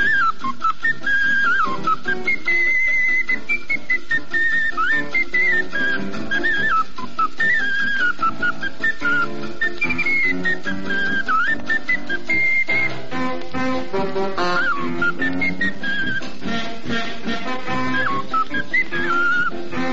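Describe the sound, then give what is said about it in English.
An ocarina carries a bright, bouncy polka melody over a lively band accompaniment. The breathy, whistle-like tune plays loudly and continuously throughout. “'Cause Homer bought an ocarina and played it for you down.”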